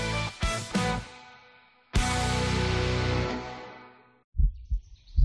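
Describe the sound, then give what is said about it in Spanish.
A deep, muffled heartbeat thumps in doubled beats, then a loud, sustained resonant musical swell rings out and fades before the heavy heartbeat returns at the end, in a COPE más Valencia radio promo for World Environment Day on 5 June. “El 5 de junio, COPE más Valencia se une al latido del planeta.”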